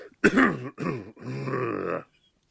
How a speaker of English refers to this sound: You clear your throat.